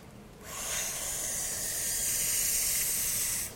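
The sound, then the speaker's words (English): A steady, bright rush of air hisses for about three seconds as an inflatable solar lamp fills up, starting abruptly and holding an even level before cutting off. No one speaks. “It inflates.”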